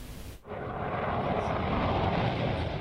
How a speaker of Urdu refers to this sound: لداخ کے صدر مرکز لیہ میں واقع انڈیا کا فضائی اڈا ان دنوں جنگی طیاروں اور ہیلی کاپٹروں کی پروازوں سے گونج رہا ہے.